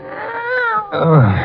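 A cat named Kitty, just stepped on, lets out two loud, drawn-out meows, the second lower and more strained like a pained yowl, with no talking over them.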